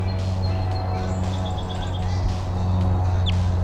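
A short run of faint, high calls from a wild bird, number 301, giving Type 2 calls about 15 meters away: about six quick evenly spaced chirps, then a single sharp upward note, all over a loud, steady low drone. No one speaks.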